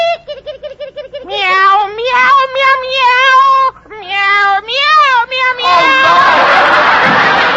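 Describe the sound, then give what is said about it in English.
A little kitten being put out meows over and over in long, wavering, high-pitched cries, loud, until a burst of crowd noise, like applause and laughter, takes over at the end. “And while I'm about it, I'll put my little kitten out.”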